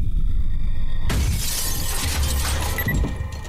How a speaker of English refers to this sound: 62-year-old Dolores Davis was enjoying her retirement in a house on the outskirts of town. As Mrs. Davis slept, someone hurled a concrete block through the glass door of her home.